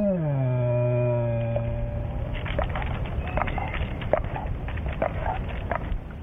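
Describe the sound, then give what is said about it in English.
A frightened black bear sitting up in a tree gives a low, drawn-out moan of fear lasting about two seconds, its pitch sagging slightly, followed by scattered rustling and sharp clicking noises. “Some people have described it as a growl. Because if a person is afraid of an animal, any sound they make will be interpreted as a growl.”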